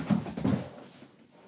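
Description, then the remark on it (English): A dog, Geo, chewing a toy during play, lets out two short, soft whimpering sounds in quick succession, then quiets to a faint trailing noise. “You're not meant to be chewing it, you silly dog.”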